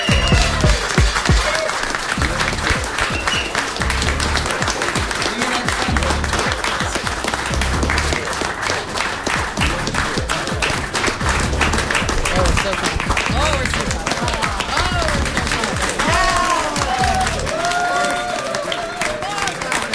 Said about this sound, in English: We just got the most awkwardly long clap award.